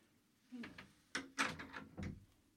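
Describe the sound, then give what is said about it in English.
A door being opened or closed, with a short series of knocks, rattles and a latch-like clunk over a couple of seconds, fairly loud against a quiet room. “No, he doesn't want to go out. He wants the door open.”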